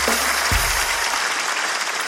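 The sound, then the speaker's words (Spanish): An audience applauds steadily, many hands clapping in a dense, even patter that holds at a fairly loud level throughout, with a brief low thump near the start. “Mami, un fuerte aplauso para mi amiga, por favor.”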